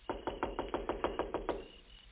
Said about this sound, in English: Now, remember, I'll knock, the doll will answer, and then I leave.